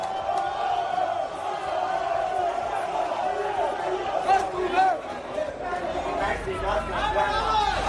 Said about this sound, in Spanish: Así suena Barcelona, gritando Bartomeu dimisión.